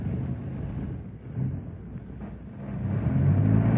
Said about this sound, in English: Could you stop the engine for a bit? You can't hear me.